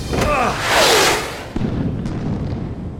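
Missiles explode against mountains: a loud, broad roaring blast with descending whistling tones swells over the first second, then gives way to a lower, lingering rumble with a sharp crack partway through.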